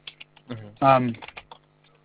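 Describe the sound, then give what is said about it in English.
Scattered taps on a computer keyboard, fairly quiet, with a brief burst of voice in the middle before the irregular clicking picks up again faintly. “It caught me while I was typing.”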